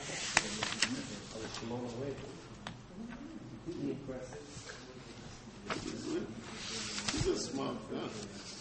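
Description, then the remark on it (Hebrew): Pages of a Tanya book are flipped in quick, papery rustles and sharp swishes while voices murmur and talk in the background throughout. “תדפדפו בזה, ב...”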